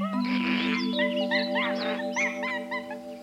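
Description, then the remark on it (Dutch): Excited, high-pitched monkey shrieks and chattering calls burst out in quick succession over a steady sustained musical drone, loud for a few seconds, as the monkeys run away. “Gillend van het lachen hollen de apen weg.”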